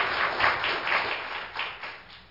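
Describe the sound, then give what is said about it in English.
A church audience gives a hand clap of praise to Jesus, a steady, dense burst of applause, the many hand claps blending into a continuous rushing patter that swells and eases slightly over two seconds, with no voices. “If you love Jesus this morning, give Him a hand clap of praise in the house of the Lord.”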